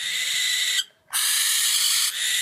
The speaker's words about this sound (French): Alors moi, je n'y connais rien aux marques de chouette, mais pour les connaisseurs et les connaisseuses, c'était la chouette Effray. Et tu m'étonnes, elle porte bien son nom. Hein. Je vous mets le son de son cri.